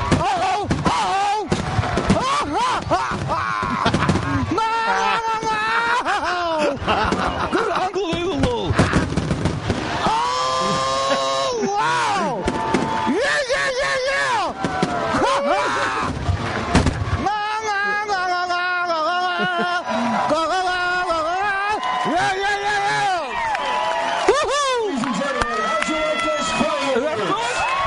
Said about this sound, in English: A truly amazing fireworks display